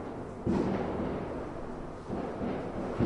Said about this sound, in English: I just want to make sure this is fireworks. Well, why are there fireworks tonight? What's going on? Unless it's for Yom Yerushalayim, so you think.